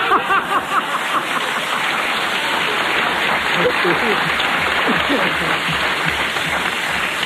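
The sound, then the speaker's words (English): An audience applauds steadily for several seconds after a riddle is answered correctly during a quiz, a dense wash of many hands clapping at an even loudness, with a few voices calling out beneath it near the start. “But I would like to ask you not to applaud because I'm going to have to start doing that next week if you continue to applaud, see?”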